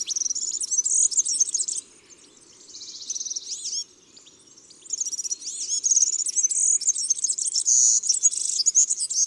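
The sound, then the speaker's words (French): European serin song: a fast, high-pitched, jangling metallic twitter delivered in long continuous bursts, with a brief pause partway through; clear, no voices. “Le serin peut chanter à la cime d'un arbre ou en voletant lentement comme un gros papillon.”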